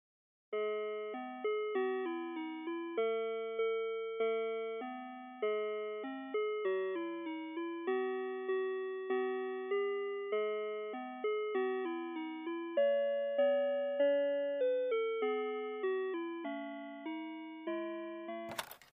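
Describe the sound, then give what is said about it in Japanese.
Telephone on-hold music: a simple, tinny electronic melody of bell-like notes, each struck and fading, plays steadily on its own for about eighteen seconds before ending in a brief click. “それではこれより保険適用できるかを確認いたしますので電話を保留にいたします。”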